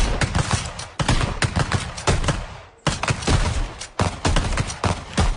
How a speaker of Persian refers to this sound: بعدش با تفنگامون تو میدان تیر شلیک میکردیم.